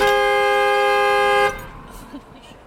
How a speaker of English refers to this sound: So if you turn your car all the way off, it just starts honking? Yeah, look.